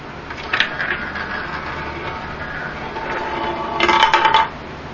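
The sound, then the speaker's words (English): A steady whirring rumble of a spinning roulette wheel, with a metallic ball rolling and clattering, building to a burst of rapid rattling bounces before it settles on red nine. No voices. “So, spin the wheel and drop the ball.”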